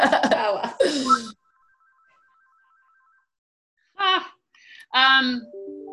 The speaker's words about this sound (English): My phone's ringing. Okay. Everyone's going to hear that on the podcast.